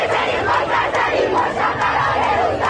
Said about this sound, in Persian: مثلا اون روزا حتما یادتونه تو دانشگاه با زنده کردن قتل مهسا امینی اینجوری شعار میدادن بچه‌ها.